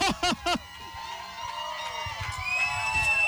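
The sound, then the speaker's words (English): Three sharp, shrill screams burst out at the start, then a crowd keeps up a sustained wash of high-pitched screaming and cheering that grows a little louder toward the end. “Uh-oh, I hear screams.”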